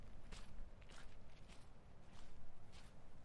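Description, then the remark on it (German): Footsteps crunch through dry leaves and soft earth at a steady walking pace, each step a brief rustling crackle, moderately quiet, with no voices. “Meine Schritte.”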